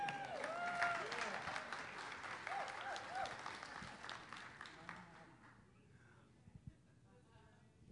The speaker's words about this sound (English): So this is a good word, guys. This is a good word. So you can clap here.